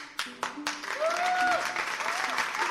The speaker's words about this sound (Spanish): A ver, ustedes, ¿saben aplaudir? Sí. ¿Sí o no? Sí. Veamos.